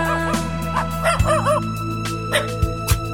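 A small dog lets out a few short, high-pitched barks and yips in quick bursts, over a steady humming background tone.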